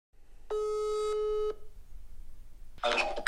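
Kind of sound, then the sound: signal or alarm, telephone call tone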